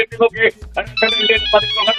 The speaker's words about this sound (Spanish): Madre mía, ¿por qué no anula usted el sonido del teléfono móvil? El sonido que es de ahora también.